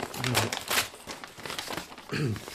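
Crisp paper rustling and crinkling in several bursts as an envelope is torn open to get at the letter inside and the letter is handled, with brief low vocal murmurs underneath.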